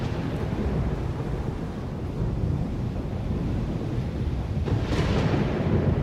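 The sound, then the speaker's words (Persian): A storm roars steadily: constant low rumbling wind noise with deep thunder-like rolling, loud throughout, swelling into a brighter gust near the end, with no voices. “هیچ وقت همچین طوفانی ندیده بودم.”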